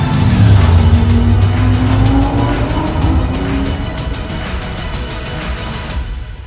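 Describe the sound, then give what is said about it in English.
Loud race car engines roar continuously during a practice session on a track, pitch sweeping up and down as cars accelerate, shift and pass one another, with a rapid rhythmic pulsing and occasional tire squeal; no one speaks. “You passed him. I know it's just practice, but it's like the Indy 500.”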